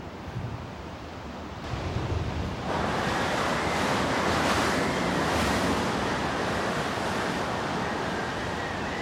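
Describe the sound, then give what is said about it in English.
Fierce Antarctic storm wind, the winter's second storm at a penguin breeding ground, with the temperature at 80 degrees below zero, roars steadily, surging louder after a few seconds into a dense, continuous rush with a faint whistling edge. No voices are heard. “As the father settled into their long wait at the breeding ground, the winter's second storm arrives.”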